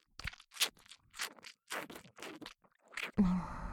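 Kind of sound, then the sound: human body sound, wet chewing mouth sounds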